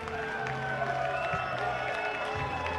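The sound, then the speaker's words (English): A ballpark crowd at a Wisconsin Rapids baseball game cheers and claps after a home run into deep right field, in a sustained, steady roar, loud and continuous, with scattered whoops rising above the noise. “This crowd is loving it, and the Rafters have taken the lead early in the first.”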